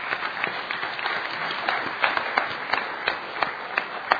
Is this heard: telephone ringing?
no